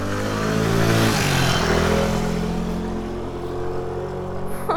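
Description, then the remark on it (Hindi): A motorcycle engine revs loudly, its pitch climbing and shifting as it accelerates carrying a passenger on the carrier, then the roar slowly eases as the bike speeds off through a gate. No voices are heard. “Imran उछलकर career पर बैठ गया और मोटरसाइकिल फर्राटे भरती हुई फाटक से गुजर गई।”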